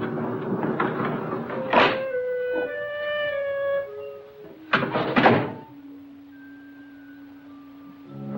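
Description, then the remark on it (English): A front door on a dark street opens with a creaky, groaning hinge, followed by a heavy thunk as it shuts, then a low lingering hum. Fairly loud, with no voices. “Out in the dark street, Edgar runs to his front door.”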